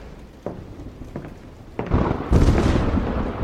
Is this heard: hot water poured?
no